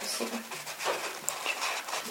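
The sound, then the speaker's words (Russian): Heavy breathing from a woman, with ragged, airy breaths following one another in an uneven rhythm, shaky and strained, breathing with tears. “Я не, она дышит. Как так отдыхание. Такое дыхание со слезами.”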